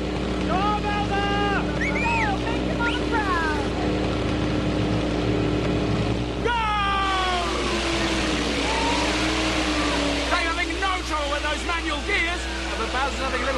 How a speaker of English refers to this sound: Bowser's having a little bit of throttle trouble. Bowser's engine is misfiring.